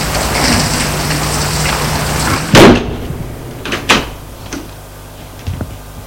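A woman shuts a door with one solid thud, cutting off a steady rain-like hiss, followed by a few fainter clicks and knocks. No one speaks.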